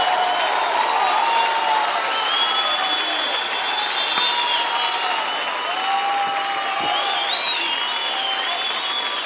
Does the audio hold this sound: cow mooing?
no